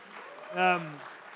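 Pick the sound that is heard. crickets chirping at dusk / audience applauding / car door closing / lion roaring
audience applauding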